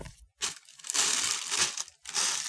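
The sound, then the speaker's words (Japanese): Loud crinkling of a plastic bag that has just been urinated into, being scrunched and handled in a few rustling bursts with brief pauses between them. No talking. “こちらのビニール袋におしっこをし終えました。”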